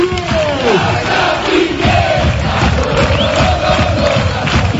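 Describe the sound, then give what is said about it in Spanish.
A large crowd of Unión Deportiva Las Palmas fans at the Estadio de Gran Canaria chants in unison to bid farewell to the season after a 1-1 match against Deportivo Alavés, sustained melodic voices rising and falling over a dense roar of cheering, loud and continuous throughout. “Así despedía la afición de la Unión Deportiva lo que fue la temporada frente al Deportivo Alavés, con el 1-1 en el resultado, en el marcador.”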